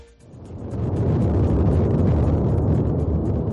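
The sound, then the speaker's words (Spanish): The erupting Cumbre Vieja volcano, on the 13th day of its eruption, roars with a deep, continuous rumbling blast that swells within the first second and then holds loud and steady, a dense churning low-end roar with no voices. “Y como escuchamos, no deja de rugir, ha incrementado también sus explosiones, aunque los expertos insisten en que el volcán mantiene cierta estabilidad.”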